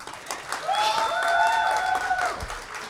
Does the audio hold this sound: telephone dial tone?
no